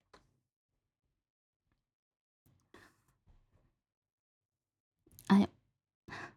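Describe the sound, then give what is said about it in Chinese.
A big yawn from a tired person: a loud voiced breath swells near the end and trails into a second, breathy exhale, after a few faint rustles and clicks in otherwise quiet surroundings. “打这么大的哈欠，真累啦！”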